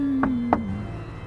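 Two sharp knocks on the door of an old church, about a third of a second apart, sounding over a steady, low sustained tone that slowly dips in pitch and hums on throughout.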